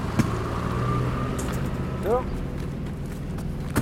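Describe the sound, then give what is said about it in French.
A heavy diesel engine of a backhoe loader at a pig farm runs with a steady, low, droning rumble and a faint tonal hum. A brief rising whine cuts in midway, and short knocks sound at the start and end. “Donc, il y a un tracteur, c'est même pas un tracteur, c'est un tractopelle.”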